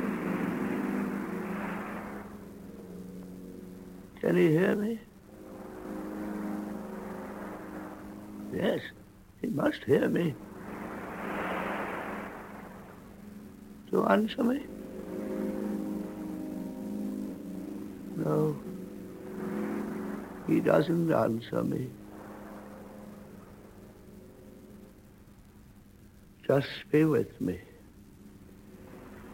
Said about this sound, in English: That sound you hear is the sea. I say that sound you hear is the sea. We are sitting on the strand. I mention it because the sound is so strange, so unlike the sound of the sea, that if you didn't see what it was, you wouldn't know what it was.